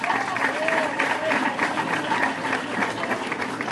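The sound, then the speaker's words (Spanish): An audience claps steadily for several seconds for the work of the participants who presented for table 2, a dense, even patter of many hands at moderate loudness, with faint voices murmuring underneath. “Si pueden aplaudir el trabajo de los compañeros, se los agradecería.”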